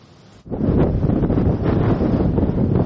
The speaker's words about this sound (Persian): طوفان شن در سیستان و بلوچستان، تعطیلی ادارات، بسته شدن جاده ها و مراجعه بیش از 250 تن به بیمارستان ها.